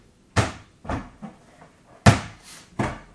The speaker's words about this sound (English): It's closing the door.